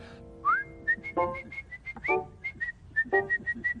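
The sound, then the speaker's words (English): A person whistles a quick tune: a few upward-sliding notes followed by a string of short, bright, evenly repeated pips, with no talking. “Can you whistle?”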